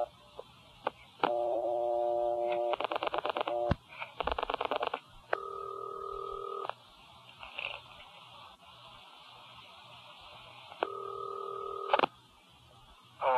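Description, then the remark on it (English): Rapid touch-tone dialing beeps over a phone line as a quiz host calls a contestant whose number was drawn from a revolving drum, followed by two long, steady ringing tones separated by a quiet pause. Clear, with no voices. “Now, as you know, I chose your phone number from our revolving drum on last week's show, called you up”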